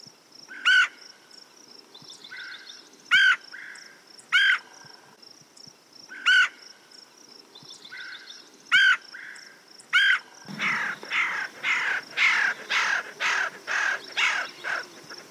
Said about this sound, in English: The red-headed woodpecker makes a sharp chir call, similar to the red-bellied woodpecker, but higher in pitch. Red-headed woodpeckers will also make loud char-char notes, which are normally heard when these birds chase each other around.